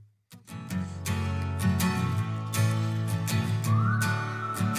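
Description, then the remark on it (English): A full music track with steady beat and instruments, and partway through a clear, sustained whistled melody line enters on top of the mix, bright and prominent. “We got whistle.”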